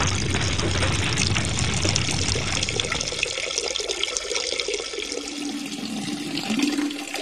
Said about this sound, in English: Then he pointed it at the fire and squirted water on it, just like a fire hose.